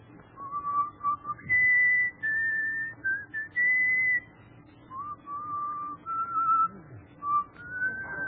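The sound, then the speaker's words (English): A man whistles a simple tune while coming through the ride, a string of clear sustained notes stepping up and down in pitch, fairly loud, with a faint low rumble underneath and no talking. “Let me hear your whistle coming through the ride.”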